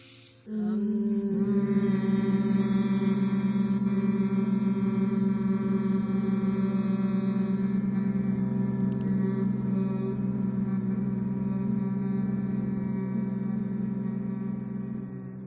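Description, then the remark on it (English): A human voice hums one long, steady note at a low pitch during a guided breathing exercise, one of a series of four hums after a deep breath, held evenly for about fourteen seconds before tapering slightly at the end, with no speech. “And we will now begin a series of four hums. Breathing in and hum.”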